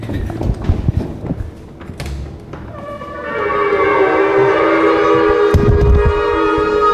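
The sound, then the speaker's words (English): After a few seconds of low rumbling and shuffling noise, a loud blast of shofars (ram's horns) starts and holds steady with a harsh, brassy, buzzing tone until the end. About ten shofar blowers are blowing them at All Souls Unitarian Church to measure how loud they can be. “So shofars were the horns that apparently knocked down the wall, so we wanted to measure how loud they could be.”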